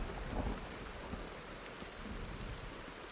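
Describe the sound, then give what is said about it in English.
Heavy rain pours in a steady, dense hiss, with a low rumble of thunder swelling briefly near the start before the downpour carries on alone. “I shouldn't have opened it, he muttered again, the heavens opening once more.”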